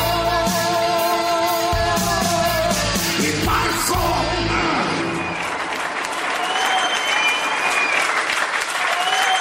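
An audience applauds steadily and loudly, with cheers and yells over the clapping at first, then settling into dense, sustained applause with a few whoops.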